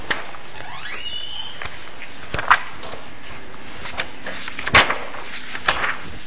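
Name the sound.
door being opened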